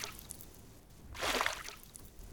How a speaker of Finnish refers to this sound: Hän sukelsi kylmään veteen tutkiakseen joen pohjan.